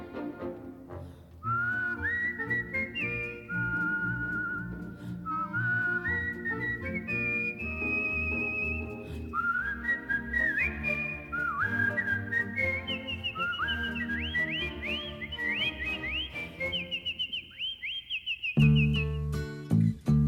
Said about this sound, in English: When they're sorely pressed, they whistle for a spell, and whistling seems to brighten up their day.